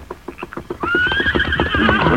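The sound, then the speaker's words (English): Rapid galloping hoofbeats pound steadily as horses are ridden along the Santa Fe Trail through the night, and partway through a horse lets out a loud, drawn-out whinny over the continuing rhythm. No voices are heard. “The Lone Ranger and Tonto rode along the Santa Fe Trail all that night, stopping only for short periods to rest the horses.”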